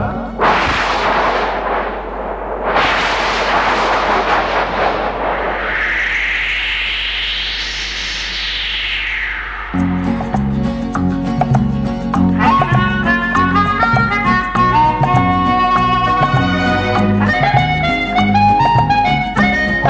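Loud crashing booms and rolling rumbles open the track, followed by a rising whooshing sweep, before a rhythmic synth melody with a steady beat takes over for the second half.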